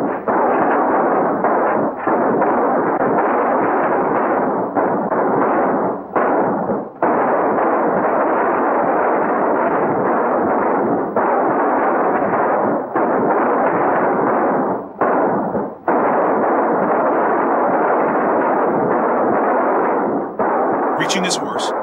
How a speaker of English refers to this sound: The townsfolk charge on, taking cover behind some downed trees and returning the gang's fire. Rogers takes a swing at John, who drops him with one punch. Ignoring the gunfire behind him, John scrambles up the canyon wall.